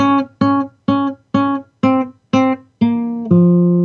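A riff played on guitar in the key of B flat minor, a bright, buzzy tone: six short, evenly spaced staccato notes on one pitch, then two longer sustained notes stepping downward. It plays alone with no talking.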